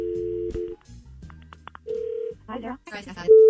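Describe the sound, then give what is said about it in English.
Telephone tones from a call placed during the War of the Roses segment on radio station KDWB sound in short bursts, a few brief beeps between them, followed by a snatch of voice and then a long single tone at the end. “Let's make the phone call on the War of the Roses on KDWB.”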